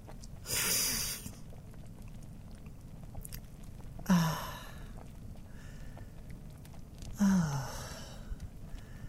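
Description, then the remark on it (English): A sip from a drink, then two separate wet gulps a few seconds apart, each followed by a breathy exhale, with no talking. “But I can stop it all with one fateful sip.”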